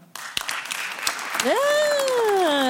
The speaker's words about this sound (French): Alors, il y a déjà un vote invalidé qui est arrivé avant la question. Alors, il reste 799 personnes qui peuvent voter. Par applaudissement, qui est pour ?